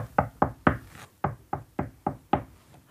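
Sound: knocking on a door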